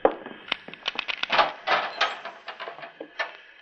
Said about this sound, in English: I'll open the cell door, Mitz. You two hombres stand back.